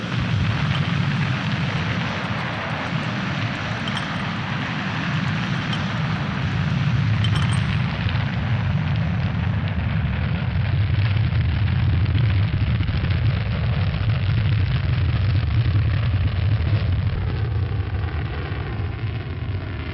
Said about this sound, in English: Kieran had barely finished improvising the best he could manage for a G-couch when the boosters and main engines fired.